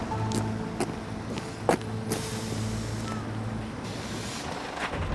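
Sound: bus driving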